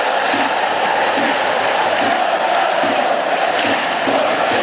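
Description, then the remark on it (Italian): A large stadium crowd of Inter (nerazzurri) football fans in the south curve (curva sud) chants and roars continuously at a Parma–Inter match, a dense, loud wall of voices with rhythmic pulses as they jump and sing together in the stands. “Va a batterlo capitan Del Prato, 31 di gioco, sempre 1-0 per l'Inter, salta la curva sud occupata dai tifosi nerazzurri.”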